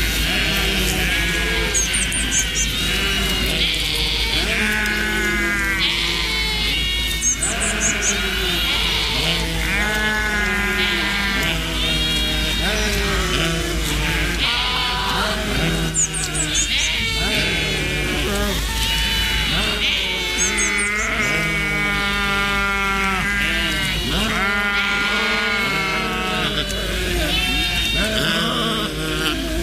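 A flock of sheep bleating continuously, many overlapping calls, some loud and wavering, with a steady low hum of background noise throughout.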